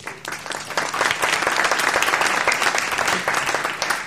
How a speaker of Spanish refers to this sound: Muchas gracias. Un aplauso a María, ¿no?